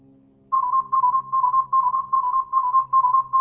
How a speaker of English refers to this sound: If you listen to this sequence of tones, it sounds like a galloping rhythm.